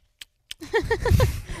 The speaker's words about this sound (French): C'est l'effet sonore du clin d'œil dedans. Oui, c'est ça. Je fais des clins d'œil en studio.